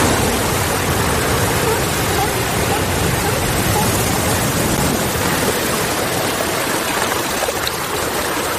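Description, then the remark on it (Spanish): Sea waves washing against the coast beside the port at Cape Town, Cape of Good Hope, make a steady, loud roar of rushing water with no clear breaks between swells. “Bueno, esto es el mar.”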